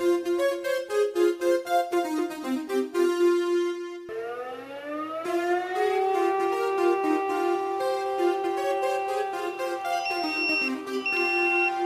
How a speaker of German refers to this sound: Alarm für die Freiwillige Feuerwehr Diemelsee.